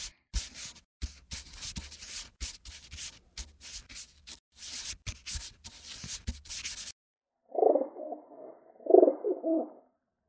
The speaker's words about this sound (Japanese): 鳩さん、雪山までお願いね。